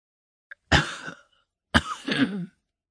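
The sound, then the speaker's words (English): A woman coughs: two loud, harsh bursts separated by a short pause, the second breaking into a rougher, wheezy fit that trails off, leaving her panting. A tiny click comes just before the first. “It slipped down on your shoulders, she observed, panting from coughing.”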